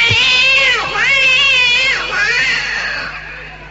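A cat yowls in distress as it lies dying in pain beside a dish of food: one long, loud, wavering cry that dips and rises in pitch several times before trailing off more quietly at the end.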